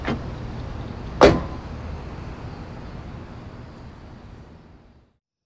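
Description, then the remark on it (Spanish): A car door opens with a short mechanical click, then a sharp latch-like clunk, followed by a low steady rumble that fades away over a few seconds, with no voices. “abre la puerta donde está estacionado el coche.”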